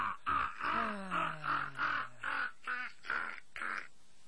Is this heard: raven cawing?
yes